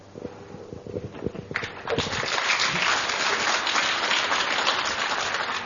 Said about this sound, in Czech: Já se přidávám k tomu potlesku a jsem hrozně rád, že na to přišla řeč